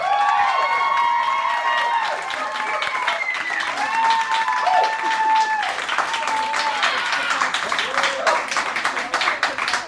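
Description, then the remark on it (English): A large audience applauds steadily to vote for a favorite competitor, dense clapping mixed with cheers and high-pitched whoops, loud and sustained for the full stretch. “So pick a favorite with your applause, starting with Joseph Scrimshaw, Harry Potter.”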